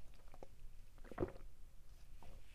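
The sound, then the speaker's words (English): Someone takes a quick sip of water during a short water break, with a few soft, wet slurping and swallowing sounds, quiet and brief, with a stronger gulp in the middle. “All right, real quick water break. Let me take a little sip of this.”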